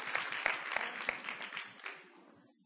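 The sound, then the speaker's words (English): An audience applauds, a dense crackle of many hands clapping at once that starts fairly loud and gradually thins and fades away over a couple of seconds. “See, you might, I don't need the clap.”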